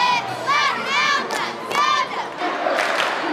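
Hundreds of people at a Friday-night high school football game in Quincy, Illinois cheer and yell for the home team, many voices rising in loud overlapping shouts that swell in waves over a steady roar of noise.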